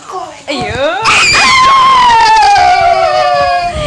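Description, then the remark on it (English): A loud human scream that starts with a rising shriek, then settles into a long, sustained wail that slowly falls in pitch over several seconds. “He will make me scream very loudly.”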